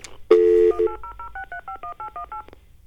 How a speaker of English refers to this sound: Oh, let's see what happens if we call the magic random number telephone line right now. Let's see what we get.